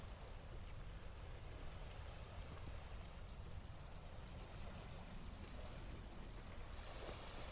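flowing water

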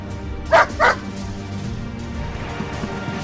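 dogs barking

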